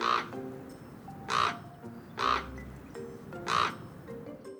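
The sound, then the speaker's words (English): A common raven gives four harsh, croaking calls, spaced about a second apart, with a faint background hum between them and no talking. “That was actually a common raven.”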